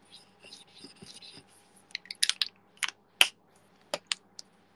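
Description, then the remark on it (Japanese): A series of short, dry, crisp scratching strokes as a gold pen nearly out of ink scrapes across a thin plastic bag in irregular bursts, with a faint soft rustle at the start and no speech. “ただかすっていく。ビニール袋の上をかすっていくだけの存在。”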